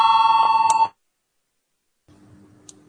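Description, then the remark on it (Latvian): A parliamentary voting bell, rung to call a vote on proposal 19, rings in one loud, steady, buzzing tone for just under a second, then cuts off into silence before a faint murmur of voices rises. “Lūdzu zvanu, balsosim par 19.”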